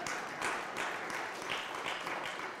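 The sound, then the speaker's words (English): An audience claps steadily throughout, a dense, even wash of many hands applauding at a moderate level with no speech over it. “It's okay if you clap after they're finished.”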